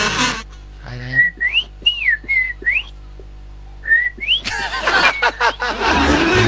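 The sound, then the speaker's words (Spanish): A person whistles in imitation of a loica bird during an animal-imitation contest: a string of short, high, gliding notes that rise and fall in a sing-song pattern, then a stretch of rough noise and faint snickering. “se te salió el pajarito. ¿Qué vendría haciendo eso? ¿Una loica?”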